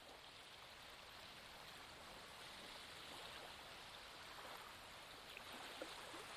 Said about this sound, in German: Du atmest ein und aus und dein Blick geht noch ein letztes Mal ganz weit aufs Meer hinaus. Du tankst das Meer, das Meeresrauschen in dir auf. Du bist nochmal bewusst dieses Geräusch wahr.